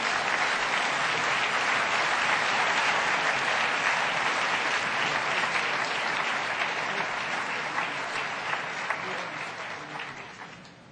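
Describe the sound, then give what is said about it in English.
Sustained audience applause, a dense, steady wash of many hands clapping that holds loud for about ten seconds before gradually tapering off at the end. No one speaks over it. “I think he deserves a little applause for that, don't you?”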